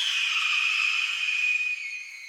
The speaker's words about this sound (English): And here's a red-tailed hawk screech.